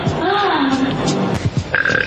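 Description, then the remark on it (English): A long, loud burp, drawn out over about two seconds with a croaking, voiced quality that wavers in pitch before breaking up at the end. “the last one was hard to take because it sounded like burping mixed in with the farting too much”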